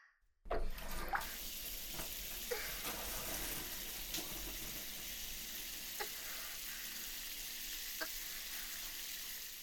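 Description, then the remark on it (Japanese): After a brief silence, water begins running steadily from a tap, an even rush with occasional small splashes as soap foam is rinsed off underneath. No one speaks. “泡だけ落とさせていただきますから。”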